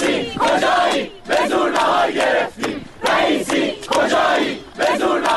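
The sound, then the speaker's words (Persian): A crowd of students at the University of Guilan, Iran, chants a new slogan in unison announcing they got their lunch, loud rhythmic phrases repeating about every second and a half, each burst separated by brief pauses. “و همون دانشجوها چند ساعت بعد که نهارشون رو گرفتن با یه شعار جدید گرفتن نهار رو اعلام کردن.”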